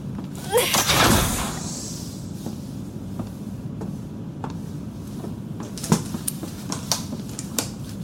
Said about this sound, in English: I see the medical bay. Can you open the door? No. Please use the manual door controls.